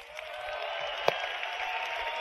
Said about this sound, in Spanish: los cuales les pido un fuerte aplauso, por favor.